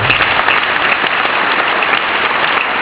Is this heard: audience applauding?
yes